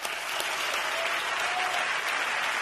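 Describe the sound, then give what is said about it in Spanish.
Sustained applause from a crowd, a dense, steady wash of clapping at an even loudness throughout, with no voices rising above it. “Y un merecidísimo aplauso de mucho tiempo.”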